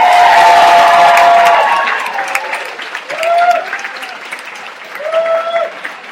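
crowd cheering and applauding

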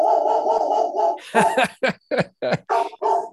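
guard dog barking

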